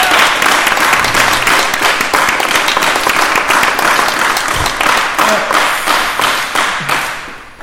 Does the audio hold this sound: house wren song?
no